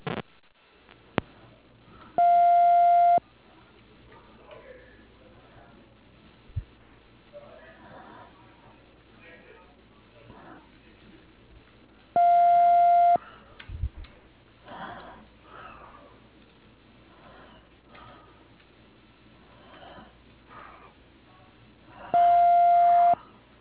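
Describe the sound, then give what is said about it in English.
A phone's ringback tone, heard while calling a person's cell phone from Bank of Cardiff, sounds three times, each a steady, mid-pitched electronic burst about a second long, spaced roughly ten seconds apart, with faint murmuring and rustling between rings. “Let me call his cell phone and see where he's at.”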